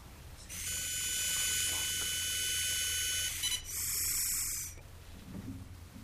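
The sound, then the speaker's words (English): A long, steady breath blown into the handheld unit of a car breathalyzer that a driver blows into to start the car, carrying a continuous electronic tone for about three seconds, then a short break and a second, briefer beep signalling to inhale, before it goes quiet while analyzing the breath for alcohol. “So I blew and then inhaled, and now it's analyzing my breath to determine if there's alcohol on it.”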